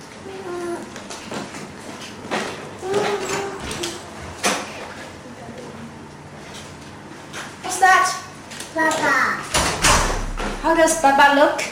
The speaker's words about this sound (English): Mommy's gonna open the door.